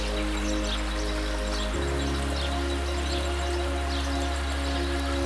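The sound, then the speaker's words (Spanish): A soft, steady murmur of slowly moving water from a wide, calm river in a tropical setting flows continuously, with a low hum beneath it and faint high bird chirps from birds in the distance dotted through. “Escucha el suave murmullo del agua moviéndose lentamente y el canto de los pájaros en la distancia.”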